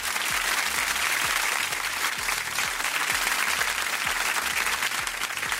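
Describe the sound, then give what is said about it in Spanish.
Steady, dense applause from a crowd, a continuous loud wash of many hands clapping at once with no pauses and no voices standing out. “No, otro aplauso.”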